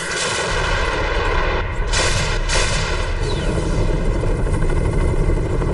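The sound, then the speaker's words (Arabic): Heavy, continuous barrage of artillery-like fire from an Apache helicopter firing more than 50 shells, with booming explosions and the helicopter's rumble underneath, loud and dense throughout, with sharp bursts punctuating the steady roar. No voices. “وأحصوا الإخوان أكثر من 50 قذيفة رميتها مروحية أباتشي بمحاولة يأس منها لتمشية المكان.”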